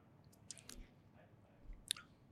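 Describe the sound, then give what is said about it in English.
A quiet sip of bourbon: a few soft, wet mouth clicks and a brief slurp over low background hiss, with no talking. “I'm gonna take a sip of it.”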